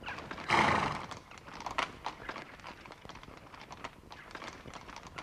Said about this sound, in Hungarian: A báró úgy döntött, hogy felgyújtja a batár, de még egy búcsúkört kíván hajtani vele. Ne! Meghadítja a lovakat!